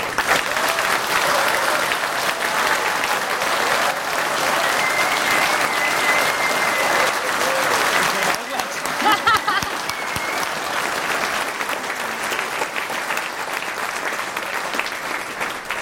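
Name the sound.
audience clapping loudly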